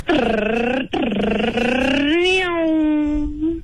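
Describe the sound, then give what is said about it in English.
A voice imitates a revving supercar engine and exhaust with the mouth, the winning entry of a contest: a loud, buzzy drone that climbs in pitch, breaks briefly for a gear change, then rises again and settles into a sustained whine. “You need to make the best supercar noise with your mouth.”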